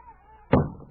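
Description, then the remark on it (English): A wooden trap door in a cabin is heaved open with a single heavy thump that rings briefly, following near-silence, then a second knock right at the end. “It was right in here, Preston, under this trap door.”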